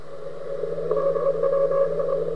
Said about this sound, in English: Another recording. Russian spy satellite, second generation spy satellite.